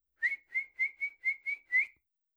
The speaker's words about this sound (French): Grand-maman fait maintenant bouillir de l'eau dans la bouilloire.